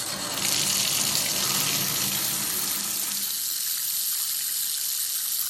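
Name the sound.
shower water running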